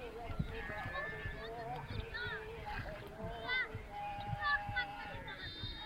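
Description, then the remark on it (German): A donkey snorts amid a lively outdoor village scene at dusk, with roosters crowing and children's voices shouting and romping in the fading daylight, mixed into the steady background. “Eselschnauben. Hähne krähen, Kinder toben im spärlich werdenden Tageslicht.”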